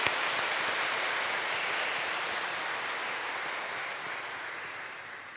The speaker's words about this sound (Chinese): 让我们掌声祝贺儿童节快乐，天主祝福。